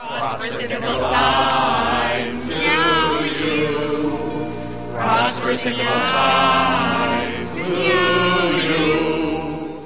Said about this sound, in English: Meow always meows that song. Well, I guess she likes it.